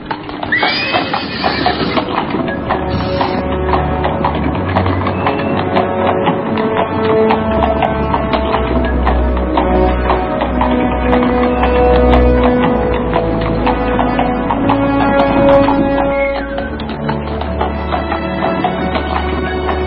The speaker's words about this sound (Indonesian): Kuda meluncur perlahan meninggalkan perbatasan desa Antahpura.